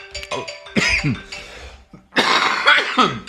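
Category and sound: human body sound, cough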